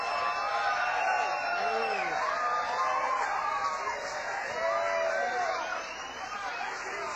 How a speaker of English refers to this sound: Give a big round of applause to the band.